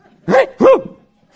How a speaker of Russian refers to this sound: Но рядом со мной есть еще пес, который иногда дает... знать о себе.